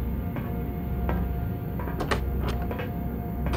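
A hatch door swings open and shuts as a man leaves through it, giving a few sharp clunks and scrapes over a steady low mechanical hum, with no voices.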